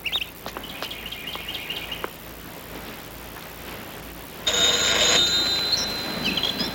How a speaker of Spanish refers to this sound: Camina hacia la puerta tipo castellano y llama al timbre.